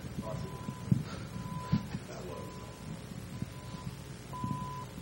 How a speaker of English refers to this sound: What the hell is that beeping? The projector?